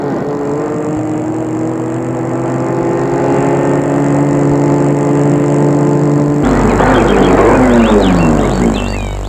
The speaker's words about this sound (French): Ils ont garé leur voiture près de l'hôtel qui est auprès du lac, au pied du lac, je veux dire.